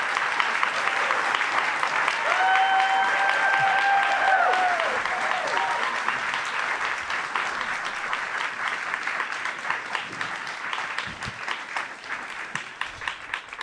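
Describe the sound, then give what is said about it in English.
Sustained audience applause for Doug Tallamy, professor of Entomology and Wildlife Ecology at the University of Delaware: dense steady clapping that slowly tapers, with a brief whistle-like tone rising above it early on. “Let's give him a big round of applause.”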